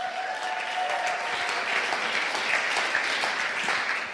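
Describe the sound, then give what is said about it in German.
An audience at a sermon claps steadily for a few seconds, a dense wash of many hands at a constant moderate loudness, with no voices standing out. “Kolosser, der nächste Bibelvers, könnt auch wieder klatschen.”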